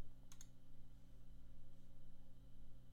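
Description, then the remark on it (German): Two quick, close-together clicks of a computer mouse or keys early on as someone clicks somewhere on the screen, then only a steady low electrical hum. Quiet, with no talking. “Komm, ich klicke mal irgendwo drauf.”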